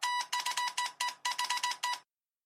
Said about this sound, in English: The wristwatch buzzed. It wasn't an alarm buzz, because for alarms, the watch beeped. The buzz only meant one thing. Contact. The buzz was a 5-minute warning, a notice to go somewhere, be alone before the full message came in.